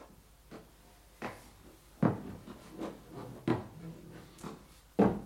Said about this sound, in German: Die Stufen knarren. Das stelle ich fest. Aber ich bin froh, dass Sie es sagen. Sie knarren vor allem nachts.